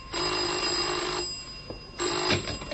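A telephone rings in two bursts, a long electric trill, a brief pause, then the second ring starts. Steady, buzzy and fairly loud, with no voices.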